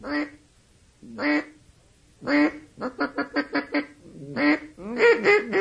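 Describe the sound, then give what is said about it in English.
A duck mating call imitated on a call: loud, nasal quacks, first single and spaced, then a quick run of short quacks and a final cluster of raspy, drawn-out ones. “Of course, then you use your mating call.”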